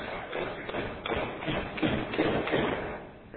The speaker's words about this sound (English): Now, everybody, if we use this type of coffin... Everybody will hear that sound someday. They nailed the coffin shut.